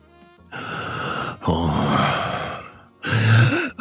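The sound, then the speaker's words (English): A voice imitates Darth Vader's menacing heavy breathing: three loud, raspy breaths, the last ending in a low groan-like rasp. “I could have done the heavy breathing.”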